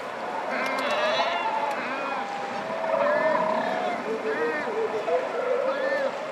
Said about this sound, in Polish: Rozpiętość skrzydeł największa spośród ptaków, 3,5 metra nawet. Bez problemu pokonuje oceany od brzegu do brzegu. Ktoś oszacował, że 50-letni albatros ma na liczniku co najmniej 6 milionów kilometrów. Dźwięki może niezbyt przyjemne, proszę posłuchać.